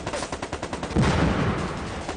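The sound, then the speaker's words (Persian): Rapid bursts of gunfire crack in quick succession during an armed firefight, followed by a heavier, sustained volley of automatic fire that fills the scene, loud with no voices. “میزنه ما رو. الان بگیرید. من بهتون تامین میدم.”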